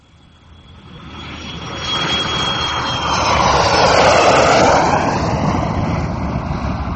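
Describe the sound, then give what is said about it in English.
Aircraft engine noise of a plane coming in to touch down at about 2:30: a broad roar with a thin high-pitched whine, growing steadily louder, peaking in a heavy rush midway, then holding strong. No voices. “He touches down at about 2:30.”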